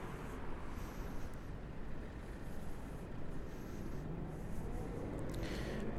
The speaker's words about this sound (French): Un passage piéton, encore une fois, très peu de danger. Plus en sécurité que autrefois, et pourtant une voiture qui arrive doucement.